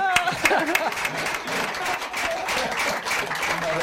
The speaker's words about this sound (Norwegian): Jeg får kjenne en applaus.